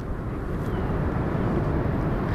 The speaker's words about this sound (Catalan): De fons s'escolten unes onades molt de fons de l'oceà i el vent. I és que aquest far està dalt d'una muntanya i el mar es veu a pocs metres, però està com a 300 metres cap avall.